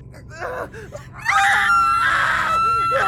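Two people scream together in pain and fear as their bodies change and their bones break: a loud, sustained wail after a second of short gasping whimpers, the high-pitched cries holding steady in near unison until the end.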